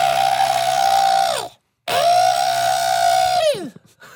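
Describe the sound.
A voice imitates a stuck pig squealing: two long, loud, shrill squeals with a harsh, strained edge, separated by a brief silence, the second one sliding downward as it breaks off.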